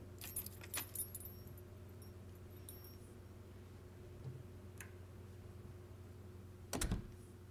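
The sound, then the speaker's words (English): Keys jangle in short bursts as front doors are locked up for closing, with a few sharp metallic clicks and a heavier clunk near the end, over a low steady hum. “Let me just lock up the front doors and change the sign to closed, then we can head up to my apartment.”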